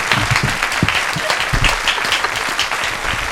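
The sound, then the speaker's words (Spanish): Steady applause from a studio audience for the guests fills the whole stretch, a dense patter of many hands clapping at once, fairly loud, with no voices over it. “Un aplauso para todas estas personas, por favor.”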